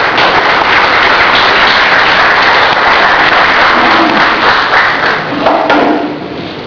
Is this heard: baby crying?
no